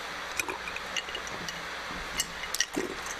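drinking water

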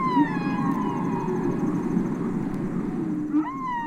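whale song vocalizations

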